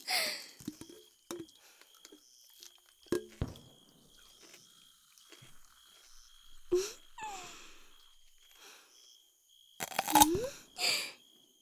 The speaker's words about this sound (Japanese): 炭酸は気になりますけど、最初にゴクゴクしないのはビールに失礼ってものですよ。さあさあ、お客様もぐいーっと。